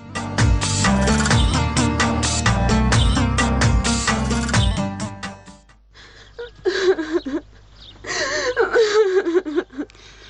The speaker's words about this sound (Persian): دخترم بس است، دگه گریان نکن، از گریان کدن چیزی جور نمیشه.